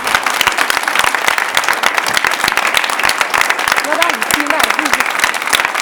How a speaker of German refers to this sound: Danke für die Moderation und für die Vorbereitung. Ein Applaus. Vielen Dank.